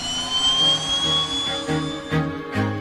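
A loud, steady jet engine roar with a rising high-pitched whine, punctuated by a couple of brief bursts of noise near the end; no voices are present.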